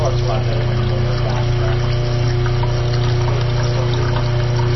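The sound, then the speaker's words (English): A steady, continuous hiss of pressure being relieved from a biodiesel filtration canister so its lid can be removed to change the filter, layered over a loud low pump-like hum, holding constant from start to finish without any pause or change. “What we're doing now is just relieving the pressure off this filtration canister so we can get the lid off and change our filter.”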